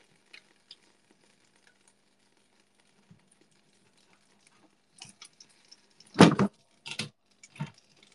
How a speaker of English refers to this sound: Okay, sauce in. Sauce in. It's sizzling, guys. Oh my God. It's sizzling!